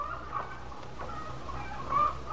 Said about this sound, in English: Sounds like the chickens are extra hungry this morning.